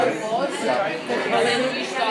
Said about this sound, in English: So there's a big crowd here. There's a couple of children here in the background, as you can hear as well.